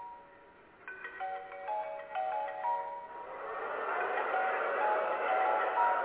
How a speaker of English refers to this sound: Go and answer your phone, nigga. Get that shit out of here.